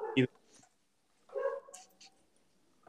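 A dog gives one sharp bark, then after a short pause lets out a longer, rough growling sound that trails off into quiet.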